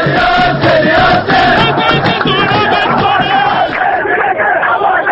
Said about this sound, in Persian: آهنگ نداشتیم ولی دیگه تشویق برای بچه های صنعت نفت رو داشتیم.